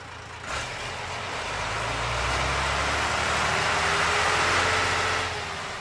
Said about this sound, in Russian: Вскоре машина остановилась перед проселочной дорогой, и мужчина вышел.